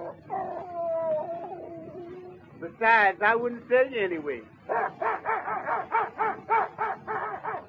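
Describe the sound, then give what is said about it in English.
A dog whimpers and lets out a few high, sliding yips, mixed in with a man talking in a steady, conversational voice. “My dog, he is my dog.”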